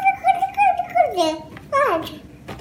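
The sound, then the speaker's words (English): A human baby, recorded a few years ago, babbles in high, sing-song vocal bursts, a long wavering stretch that slides downward, then a shorter rising-and-falling one, with no adult talking. “In human infant babbling, they produce a syllable type, ba, ba, ba, ba, in a rhythmic way.”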